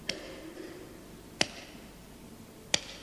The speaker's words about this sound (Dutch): Het valt helemaal dood in die zaal. Het publiek klapt zo bij het slotapplaus.